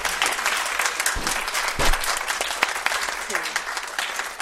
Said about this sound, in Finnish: No niin, annetaan vielä aplodit.